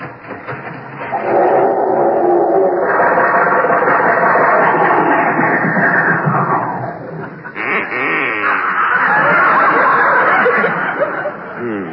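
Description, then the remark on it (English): A loud, sustained sputtering and coughing of an old car engine failing to start in Jack Benny's garage in Beverly Hills as Rochester tries it, apparently imitated by a human voice, churning on for several seconds with a brief break near the end. “I can't understand why the car won't start.”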